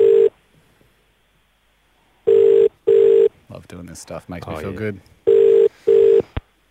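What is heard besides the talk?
telephone call ringing out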